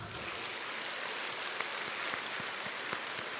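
Steady, dense clapping from a crowd welcoming Master Lu Junhong to read totems, a continuous crackling wash of many hands with a few sharper individual claps popping out. No voices are heard.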